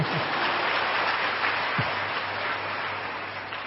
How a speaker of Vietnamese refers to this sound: Cho chàng pháo tay.